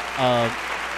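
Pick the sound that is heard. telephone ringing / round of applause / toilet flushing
round of applause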